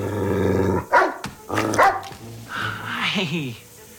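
A dog named Nicodemus, wearing a priest's collar, makes a low, drawn-out growl, then lets out two sharp, loud barks, followed by a wavering whine-like vocalization, as it jumps up and knocks a man flat on his back.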